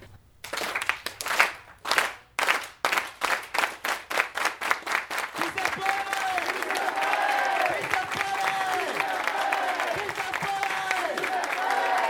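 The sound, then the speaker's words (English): A crowd claps in unison, starting with sharp, evenly spaced claps that speed up into a dense burst of applause, with voices and cheers rising over it toward the end. “So we're going to start with a clap. When we're all clapping”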